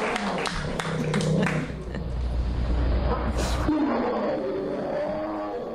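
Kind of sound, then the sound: animal, bear growling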